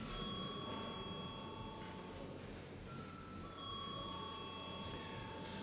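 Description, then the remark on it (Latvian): A parliamentary voting bell rings steadily for several seconds before a vote on granting urgency to a bill amending a military law, a continuous bright metallic ringing with sustained high overtones and a rough, buzzing texture, with no talking over it. “Lūdzu, zvanu.”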